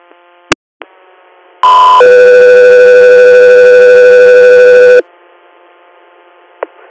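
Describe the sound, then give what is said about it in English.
Radio dispatch alert tones before a Guthrie Air interfacility transfer request: a short high tone followed by a loud, steady two-pitch tone sequence lasting about three seconds, framed by radio clicks and static with no talking. “Go through here, stand by for tones.”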